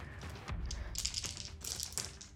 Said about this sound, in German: Nicht so gut gewürfelt.